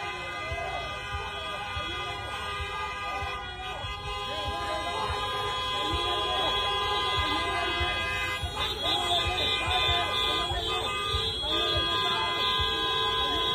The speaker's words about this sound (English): Right now, you see one person there, and then you hear a bunch of cars honking and beeping relentlessly, and then people begin to build up and yell at them.